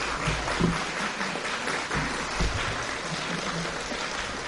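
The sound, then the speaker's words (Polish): An audience claps steadily for several seconds, a dense, even patter of many hands with no voices on top, holding a fairly constant loudness throughout. “Dziękuję za brawa.”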